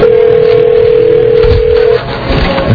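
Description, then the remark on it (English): A steady, continuous telephone dial tone hums for about two seconds, then cuts off and gives way to short telephone dialing tones over a noisy line, as a call is dialed to a Lake Tahoe number with area code 530. “Did you dial the old area code or the new one?”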